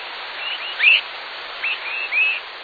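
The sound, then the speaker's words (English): Swainson's thrushes give short, rising, whistled flight calls in night flight, about half a dozen soft peeps spaced irregularly over a steady background hiss, with no talking. “Swainson's thrushes are calling to one another while flying at night.”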